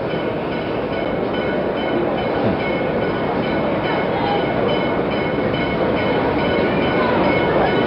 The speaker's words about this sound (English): The train is within a couple of hundred yards at the end of track 16 now. We can hear its bell, its bright headlight shining as it pulls slowly in on this final train journey for Robert F. Kennedy.